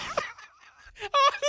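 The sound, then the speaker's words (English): A chirpy bird-call sound effect, triggered from a button, plays in a quick series of loud, squawking notes, fainter in the middle, with no voices over it. “You're the first producer and like six producers to use the sound effects chirp.”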